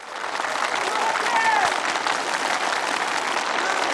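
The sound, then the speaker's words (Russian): A welcoming crowd applauds polar explorers as their festively decorated bus pulls away, with dense, continuous clapping mixed with scattered welcoming cheers and shouts, sustained at a fairly loud level throughout. “Снова раздались приветственные возгласы и аплодисменты.”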